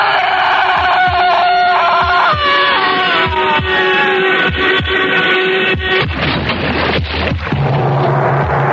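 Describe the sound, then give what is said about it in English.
A loud, steady chicken heart sound effect from a track on an album pounds in a slow, regular rhythm of deep thumps, layered with dense droning and swelling tones, with no voices. “That's called …, and it's from … album called ….”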